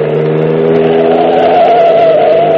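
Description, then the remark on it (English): A car engine roars at full throttle with the accelerator pressed to the floor as the car flees a pursuing vehicle, its loud, steady growl climbing gradually in pitch as it accelerates hard, continuous with no voices. “Hit it. She's down to the floor. Keep it there.”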